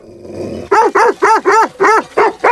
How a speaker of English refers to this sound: The herd pauses for a moment, then, hearing a noise, they all raise their heads. The dogs have also heard the sound. Thor and Maura begin to bark.